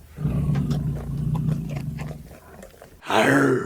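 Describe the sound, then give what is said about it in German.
A person imitates a tiger's roar with a low, rumbling, growly voice for about three seconds, then breaks into a brief higher, rougher outburst, loud with no other talk. “Tiger hat es hat jetzt mehr getönt wie ein älterer Herr, der schnarchelt in seinem Mittagsschläfchen.”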